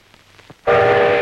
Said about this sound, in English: Now at the train station, Uncle Jack faces George.